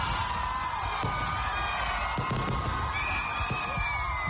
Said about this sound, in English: The sound of fireworks rippled through the nighttime sky as Ugandans ushered in the new year in the Ugandan capital, Kampala.